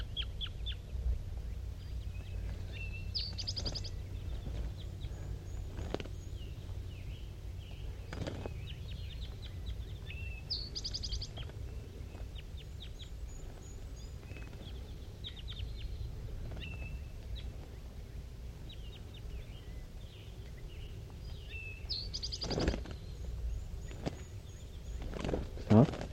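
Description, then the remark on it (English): Soft, high calls from two wild birds in the top of a dead pine tree in thick fog, calling back and forth, come in brief scattered bursts a few times over a low, steady outdoor rumble, with occasional clicks and rustling in between. “And they're calling pretty softly now, back and forth, 5-3 and the two wild ones.”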